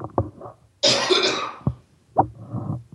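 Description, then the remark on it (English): A loud cough with a harsh, breathy burst in the middle, surrounded by shorter throat-clearing hacks and rasps. No one speaks. “I didn't want to cough on the microphone.”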